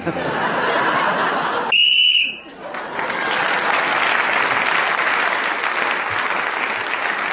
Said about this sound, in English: Well, nobody was speaking then when the whistle went,